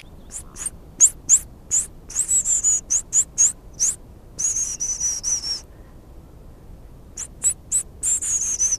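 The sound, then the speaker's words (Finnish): Very high, thin goldcrest calls, or a person imitating a goldcrest, repeat in quick series of sharp tinny notes, clear, with a brief pause before another run. Heard on a boardwalk through shoreline spruce forest on the Hanikka nature trail in Espoo, Finland, on a morning with snow on the ground. No one speaks. “Ja se voi olla hippiäinen, tai sitten se voi olla myös”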